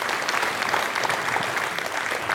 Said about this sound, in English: Let's give a round of applause for that. Right there.